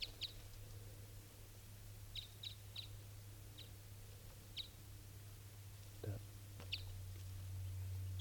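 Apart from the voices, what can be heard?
female bird calling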